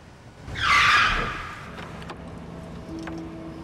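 A 4x4's tires screech loudly for about a second as it brakes hard to a stop between rows of parked vehicles in an underground car park when a woman steps in front of it, followed by a low idling engine and a faint tonal hum in the background.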